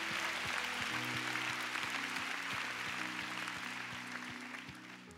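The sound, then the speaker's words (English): A large crowd claps and applauds steadily for the Lord for several seconds, a dense wash that eases slightly toward the end, with sustained keyboard chords and a soft beat playing underneath. “But come on, you want to clap? Give the Lord a big clap.”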